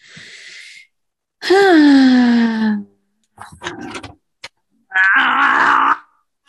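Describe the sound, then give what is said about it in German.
Someone struggles to open a pickle jar: a short breathy strain, then a long loud groan falling in pitch, a few scraping rustles, and a final strained, effortful grunt. “Musst du erst das ein Wegglas öffnen? Das Gurkenglas.”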